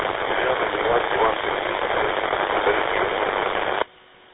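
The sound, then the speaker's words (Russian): A radio transmission swamped by heavy, steady static hiss and interference, with a faint voice barely discernible beneath the noise, too obscured to be received, before it cuts off abruptly near the end, leaving a quiet low hum. “К великому сожалению, не смог принять. Огромнейшие помехи, шум.”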